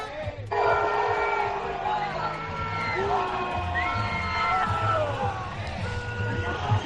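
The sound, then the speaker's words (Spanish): A large outdoor crowd of protesters supporting Palestine chants "no es una guerra" ("it's not a war") and cheers loudly and continuously as a cycling race passes through Valladolid, Spain, many voices overlapping, with a low rumble of riders and support vehicles passing underneath. “algunos de los corredores y vehículos de asistencia que transcurren por este punto caliente, como decimos, con una gran cantidad de manifestantes apoyando a Palestina y que al grito de no es una guerra acompañan la marcha de los ciclistas.”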